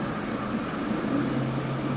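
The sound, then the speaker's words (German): Steady, continuous traffic rumble on a city street at the Spalentor in Basel, Switzerland, a broad low drone with a constant hum and engines passing, no talking. “Spalendor, Verkehr, Lärm am Schluss vom Spaziergang.”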